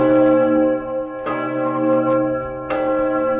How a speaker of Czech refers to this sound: Odbíjení zvonu ukončilo dnešní toulky po regionech.